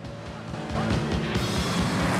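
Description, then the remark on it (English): A red sports coupe with thin-spoked alloy wheels revs hard and roars away at high speed, turning a corner. It is loud, with a dense rushing noise that swells and holds steady as it accelerates. “Jean's red coupe sets off at high speed.”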